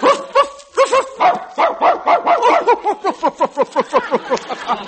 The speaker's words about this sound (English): He just barked the funniest thing I've ever heard.